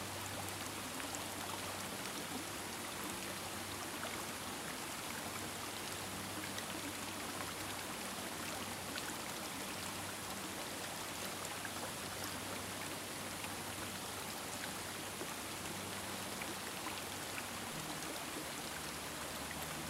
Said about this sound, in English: Now, see yourself standing or sitting under the waterfall, allowing it to shower over you.